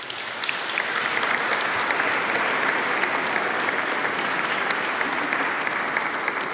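Steady, dense applause from a church audience for the choir, band and conductor, many hands clapping at once in a continuous bright patter that holds at an even, fairly loud level throughout, with no voices standing out.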